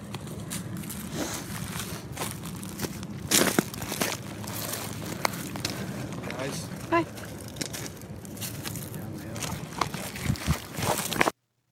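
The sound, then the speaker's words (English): Steady crunching footsteps on gravelly rock along a path, continuous, with scattered sharper crackles and a few louder scuffs near the end. Faint voices murmur in the background. “It's just there's a rock crunching, but they're trying to debate how to get down the thing, down the hill.”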